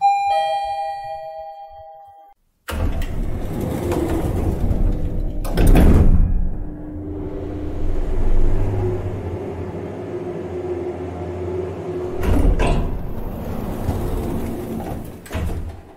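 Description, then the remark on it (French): A clear two-tone elevator chime rings, then doors slide with a few sharp clunks over a steady low mechanical hum of the moving cabin, fairly loud, with no talking, as a woman takes the elevator to leave her apartment building. “prend l'ascenseur pour sortir de chez elle.”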